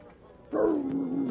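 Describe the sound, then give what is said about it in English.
A dog, Rags, lets out a single drawn-out, whiny yelp that slides downward in pitch, loud, with no voices around it. “Meet Jerry, a friend of mine, and his dog”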